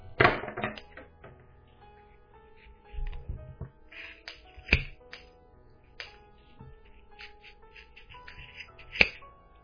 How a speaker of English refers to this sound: So just poke your scissors in and kind of pull up and just snip away until you've got all of those loops opened up.